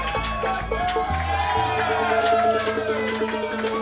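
An audience applauds and cheers for an audience member's birthday in a steady, dense wash of clapping and crowd noise that holds at an even loudness, with low sustained tones humming underneath.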